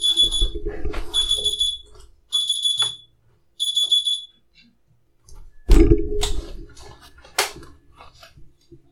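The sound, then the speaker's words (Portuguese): An alarm clock beeps in loud, high-pitched electronic bursts, three rapid pulsing stretches, followed by a few sharp clunks and clicks as it is handled and switched off, falling quiet. “Pronto, despertador desativado.”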